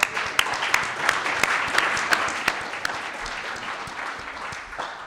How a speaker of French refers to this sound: Ubuntu FR, on peut les applaudir, c'est vrai.